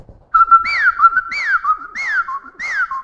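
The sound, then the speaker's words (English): A whippoorwill calls over and over, loud whistled phrases repeating in a quick, steady rhythm, each ending in a sharp upward-then-falling swoop, with no voices. “He says a whippoorwill is as pleasant to listen to as a siren. This is what he sounds like.”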